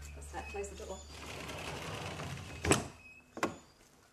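A door swings shut with a solid thud, followed moments later by a sharper latching click, over a low mechanical hum and faint room noise.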